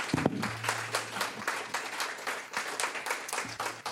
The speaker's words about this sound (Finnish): Annetaan raikuvat aplodit.